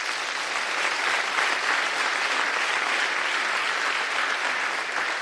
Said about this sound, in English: And so I would just like everyone to give a round of applause for the Piscataway and the Haudenosaunee because of...